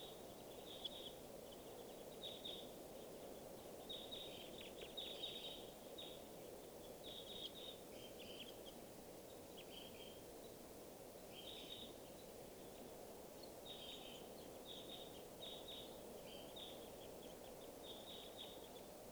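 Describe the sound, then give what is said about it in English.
Bursts of short, sharp bird calls repeat in irregular clusters over a steady background hiss, a flock of crossbills flying over to a watering area, with their type 2 flight calls chipping high and clipped. “So I see lots of crossbills here.”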